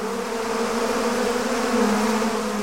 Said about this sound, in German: Genau, es geht um Bienen. Bienen sind ja für die Gärten unverzichtbar, wenn Pflanzen bestäubt werden sollen.